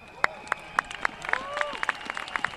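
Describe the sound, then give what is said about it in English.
Thousands of Berliners at a street demonstration in Berlin supporting the East Side Gallery, the longest remaining stretch of the Berlin Wall, clap in a steady, quick rhythm, several claps a second, while shrill whistles rise and fall over the noisy throng. “Who could have guessed that nearly 26 years later, thousands of Berliners would be cheering a different slogan?”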